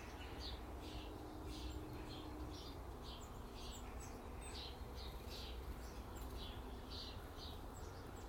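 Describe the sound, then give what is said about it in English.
Birds chirp on a Boxing Day morning in a steady series of short, high calls, repeating every half second or so over a constant low rumble of outdoor background noise, fairly quiet. “And the birds are having a nice morning.”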